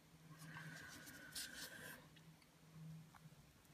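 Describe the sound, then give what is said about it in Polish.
Quiet snipping of small scissors cutting the bones out of raw herring fillets, a few soft clipping and scraping sounds in a short cluster, with a steady low hum in the background and no talking. “Także bierzemy nożyczki i wycinamy je ładnie.”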